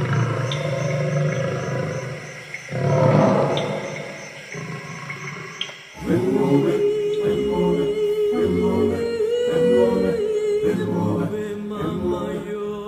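lion roaring

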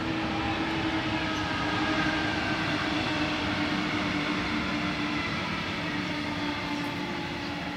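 train arriving at station

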